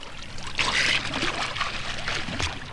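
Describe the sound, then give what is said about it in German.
Splashing water from two children who jumped into a river and swim as fast as they can to the other bank, with irregular bursts of churning and slapping over a steady watery wash, moderately loud throughout. “Sie sprangen in den Fluss. Und schwammen so schnell wie sie konnten ans andere Ufer.”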